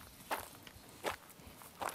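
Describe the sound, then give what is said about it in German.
Three soft footsteps at a slow, even walking pace of a person who has sneaked onto a construction site, each a brief gritty crunch over a quiet background with no talking. “Ja, ich höre dich gehen.”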